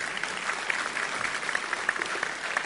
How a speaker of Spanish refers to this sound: Muy buen consejo, tremendo. Damos un aplauso.